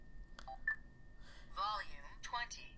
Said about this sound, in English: And we're on edit right now, and we hear the sound that tells us we're in a menu.